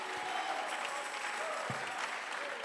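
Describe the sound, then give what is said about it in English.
An audience claps hands in a dense, steady wash of applause that stays loud and even throughout, with no pauses and faint crowd murmur blended underneath. “Somebody clap your hands all over alguien this aplaude house.”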